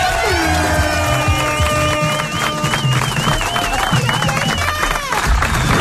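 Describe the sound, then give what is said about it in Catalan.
A programme's audience gives spontaneous applause, clapping and cheering continuously in a dense, steady wash, with whistles and raised voices rising through the crowd noise. “Bona tarda, gràcies per venir, gràcies per acompanyar-nos d'aquests aplaudiments que han sortit espontànies.”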